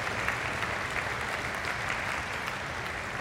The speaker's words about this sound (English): Yes, you can applaud for sure.